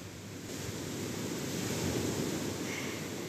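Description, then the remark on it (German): Steady ocean surf at the sea, picked up in the background by a mobile phone, rushing continuously, a broad washing roar with a gentle swell in loudness midway, heard alone without any voices, with a slight hint of wind over it. “Das heißt, es könnte gut sein, dass du im Hintergrund so ein wunderschönes Meeresrauschen hörst.”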